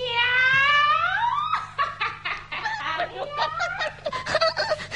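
A chicken squawks with a rising cry, then breaks into quick, choppy clucking and cackling, fairly loud, with no talking over it.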